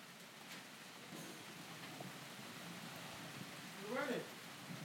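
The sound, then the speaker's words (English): Steady rain patters and hisses on surfaces throughout a thunderstorm with frequent lightning, a constant wash of sound, with a person briefly speaking near the end. “I think there's a lot of lightning and not so much thunder.”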